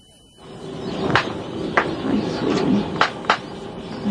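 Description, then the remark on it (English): A large owl at the Raptor Recovery Center in Lincoln snaps its beak in warning at a person stabilizing it: four sharp, dry clicks at irregular intervals, standing out over a steady low rumble of background noise, with no talking. “The clicking you hear is a warning sound from the beak of a large owl.”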